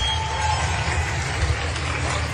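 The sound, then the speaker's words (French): Many residents clapping together from their windows for caregivers, around 8 p.m. in the evening, a steady, dense wash of applause that holds an even loudness throughout, with no voices standing out. “mais chaque soir, les capteurs mesurent une légère hausse du niveau sonore vers 20h quand les habitants applaudissent les soignants à leur fenêtre.”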